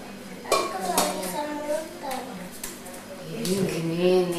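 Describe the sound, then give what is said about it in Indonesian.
Spoons clatter against dishes in sharp, irregular clinks scattered throughout, while several voices talk over the clattering. “Oke, sendok ya. Itu sendok tuh banyak bener.”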